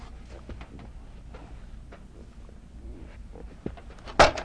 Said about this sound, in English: Boom. That's the door.